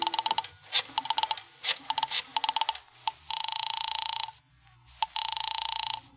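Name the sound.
telephone being dialed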